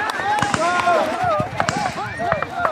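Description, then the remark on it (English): Several sharp gunshots from heavily armed Kenyan security forces firing at a locust swarm in Kenya crack out at irregular intervals, fairly loud, over a steady backdrop of raised voices talking and calling out. “Gunfire doesn't kill many locusts.”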